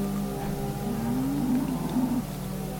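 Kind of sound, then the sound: animal, cow mooing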